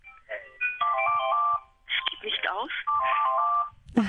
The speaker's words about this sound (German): Das ist, glaube ich, das Telefon, das im Hintergrund klingelt.